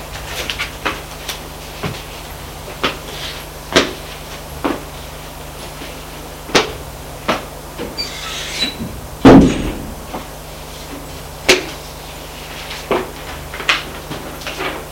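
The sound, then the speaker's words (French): A woman leaving a bedroom closes the door with a solid thud about two-thirds of the way through, surrounded by a steady scatter of sharp clicks and light taps. No one speaks. “Fermer la porte et retourne s'asseoir à côté de Julien.”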